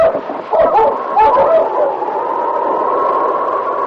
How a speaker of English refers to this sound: Finally, he heard dogs that indicated the arrival of Sergeant Preston.